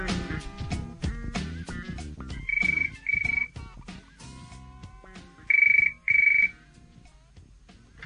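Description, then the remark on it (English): A telephone rings for an incoming call in two pairs of short electronic trills, the first pair about three seconds in and the second near the end, over a busy background of layered music and clatter. “Phone call.”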